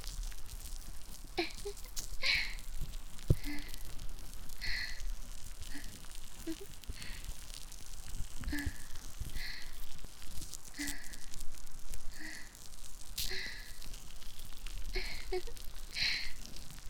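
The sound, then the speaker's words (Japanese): Soft, dense crackling and popping close to the ear, a steady stream of tiny sharp clicks with brief brighter bursts every second or so, quiet and continuous throughout. “パチパチする音が近いね。”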